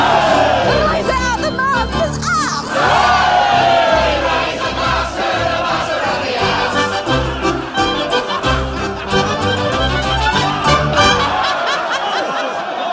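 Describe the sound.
A rowdy musical theatre cast number, with a chorus of voices singing together over a steady, bouncing accompaniment, plus laughter and cheering mixed in. It stays loud and busy from start to finish.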